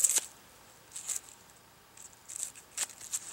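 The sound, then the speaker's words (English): Dry, papery crackles and light scratchy rustles come in short bursts, with brief quiet gaps between them, as the papery skin is peeled by hand off a medium-sized onion. “All right, now that we've got the onion paper peeled off, we're going to go ahead and slice this onion up.”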